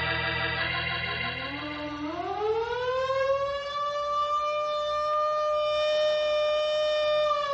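A fire siren, sounding for a fire about a mile outside of town, winds up from a low growl, its pitch rising over a few seconds into a loud, steady, sustained wail with no voices over it.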